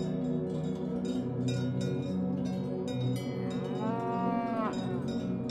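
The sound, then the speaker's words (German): Cows moo in the distance in long, drawn-out calls while their cowbells clank and jingle repeatedly throughout, a steady pastoral mix with no talking, in the morning after sunrise at Scharnitz in Tyrol, Austria, where the Isar rises, by a wide gravel bed. “Das Läuten ihrer Glocken hat etwas Beruhigendes.”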